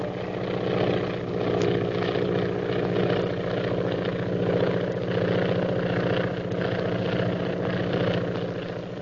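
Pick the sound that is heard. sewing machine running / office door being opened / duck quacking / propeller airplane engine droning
propeller airplane engine droning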